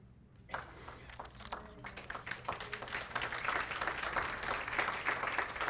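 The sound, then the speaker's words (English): An audience gathered for Kol Mashiach's anniversary breaks into applause during a sermon, starting with scattered claps and swelling into steady, dense clapping that holds at a moderate level to the end. “So I got a little applause, so I'm going to end my message then, okay?”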